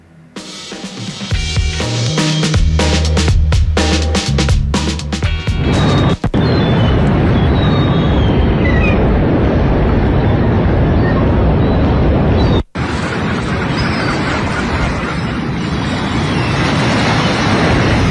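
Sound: sea waves with seagulls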